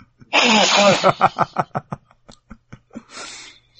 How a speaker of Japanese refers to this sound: ちょっとくしゃみが出る。 ちょっとくしゃみが。